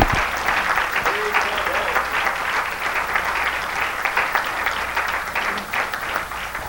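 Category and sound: crowd, audience clapping hands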